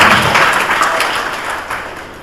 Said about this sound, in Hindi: जय हरि बोल। थोड़ा तालियां जोरदार।